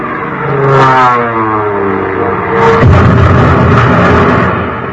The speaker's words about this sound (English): Well, there's the first one now coming in for a bomb run.